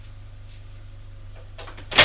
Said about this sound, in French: La porte est ouverte. Le bruit lui a fait lever les yeux.